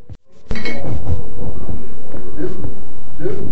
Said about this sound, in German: hör auf zu klopfen, du Nasenbohr.